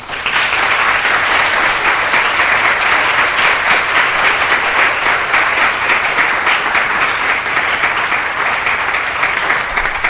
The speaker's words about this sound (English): I think that this has been a very civil and very informative exchange, and we all owe our candidates some applause.